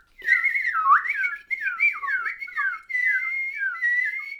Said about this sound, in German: Als er unter einem Baum saß, merkte er auf einmal, dass die Vögel ganz aufgeregt zwitscherten.